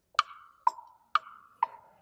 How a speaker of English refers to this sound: Listen to my heart. It ticks, it's ticking.